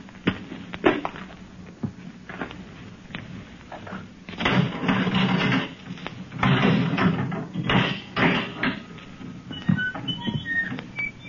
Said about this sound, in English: Door! Open the door!